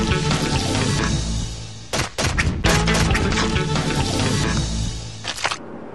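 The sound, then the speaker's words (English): A loud, continuous churning roar recorded inside a trommel screen tumbling waste such as food and cardboard, with dense clattering and thudding impacts as material tumbles and drops, plus brief bursts of sharper crashing. No voices. “Inside a trommel.”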